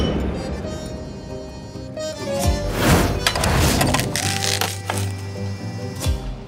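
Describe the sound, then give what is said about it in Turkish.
A few sharp knocks and clinks ring out against a busy background as glasses are touched together in a toast to two people meeting, followed by softer bumps and rustling. “tanışmamızın şerefine. Şerefe.”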